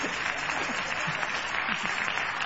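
A group of children clapping on a radio show, greeting with their hands: a dense, continuous patter of many hands that holds steady and fairly loud for the whole stretch, with faint voices mixed in underneath.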